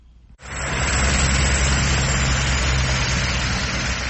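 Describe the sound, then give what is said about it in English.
A police helicopter hovers overhead after an abrupt start, above a highway traffic jam on the outskirts of the port city of Durban. Its steady roar is a dense wash of noise over a low, droning engine hum, loud and continuous with no voices. “From the police helicopter hovering above, it looks like a normal, everyday rush hour traffic jam on a highway on the outskirts of the port city of Durban.”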